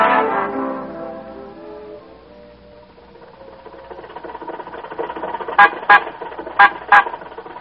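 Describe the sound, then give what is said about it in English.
A car horn honks four times in quick pairs at a red light, loud and blaring, over a low engine rumble, after a fading tonal chord at the start. “You don't honk at red lights, you stop for them.”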